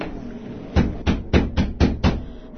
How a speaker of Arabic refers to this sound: من الطارق؟ افتحي الباب يا أم علي، عندنا ضيف.